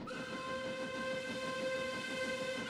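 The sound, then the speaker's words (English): A passenger train rolls along the rails with a steady, loud rumble while a sustained whistle blows over it for the whole stretch; no one speaks. “So 5 years of my life was 6 months here, 6 months there, train trips both ways.”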